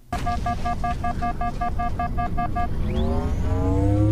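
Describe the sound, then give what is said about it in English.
A rapid series of about ten electronic beeps over a steady rumbling bed, then a bright tone that sweeps upward and swells as an energy shield recharges in the video game Halo. “Halo Shield coming back.”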